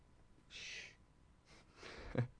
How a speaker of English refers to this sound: Can you guys all hear the dog panting? I got to get her out of here, man. Tell me, chat room, can you hear the dog panting?